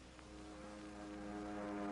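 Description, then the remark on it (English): A propeller aircraft engine, heard through a loudspeaker during a test flight, drones with a steady, buzzing harmonic tone, swelling gradually louder over a couple of seconds as it winds up while the plane dives. No one speaks. “The sound of the ship could be heard in the loudspeaker as Bob peeled off and started down, and Slim listened to the engine as it started to wind up and to Bob's terse reports.”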